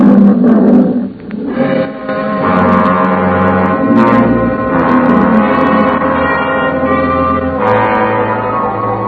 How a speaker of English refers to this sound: Nobody answered me but an old Libyan lion.